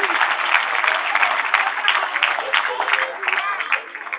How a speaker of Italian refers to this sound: dopo l'antistaminico, prendi un altro applauso che ti fa bene per la allergia.